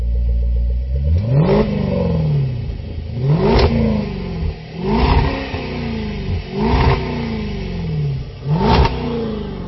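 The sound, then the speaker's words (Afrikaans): A V8 engine revs hard five times in a row, each burst sweeping up in pitch to a roar before dropping back to a throbbing idle, loud and without any talking. “As daai V8 begin brul, dan kan jy nie help om hom net dieper en dieper dieper te trap nie.”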